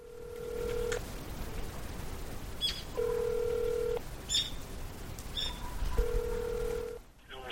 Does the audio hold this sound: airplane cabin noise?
no